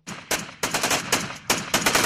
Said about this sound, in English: The sound of Kurdish fighters exchanging gunfire with Turkish forces.